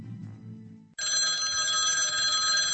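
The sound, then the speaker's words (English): In the morning, as someone reaches for the phone, after about a second of low, muffled rumble a telephone bell bursts in loud, ringing continuously with a bright, metallic trill to the end. “When it rang.”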